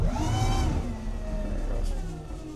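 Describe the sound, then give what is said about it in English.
The electric motor of the fishing boat Sunbeam runs steadily while cruising at about 6 knots, a continuous hum with layered whining tones that slowly shift in pitch. No one speaks over it. “Gruter doesn't want to push the electric motor too hard just yet.”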